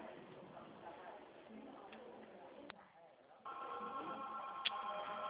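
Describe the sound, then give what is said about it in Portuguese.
A telephone begins ringing partway through, a steady, bright electronic warble that holds fairly loud to the end, following a stretch of muffled voices and light clicks. “O telefone não para hoje, não.”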